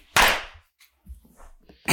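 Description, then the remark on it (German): One loud, sharp hand clap with a quick decay, made once at the start of a recording so the studio can synchronise the audio, followed by quiet low rustling and the abrupt start of another sharp sound right at the end. “Muss man unseren Hörern vielleicht direkt sagen, wir klatschen am Anfang einmal, damit wir synchron sind, damit die im Tonstudio wissen, wann wir anfangen zu reden.”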